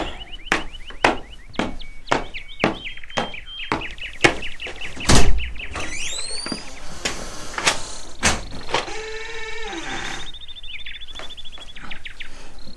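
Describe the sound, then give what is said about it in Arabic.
A door is opened for a visiting friend, with a run of sharp latch clicks and knocks followed by squeaky, creaking hinge tones, fairly loud, with no voices. “سأفتح الباب، بالتأكيد هو الصديق الذي سأسافر معه، طلبت منه أن يمر علي.”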